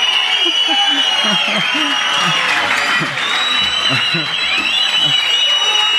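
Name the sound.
crowd cheering and applauding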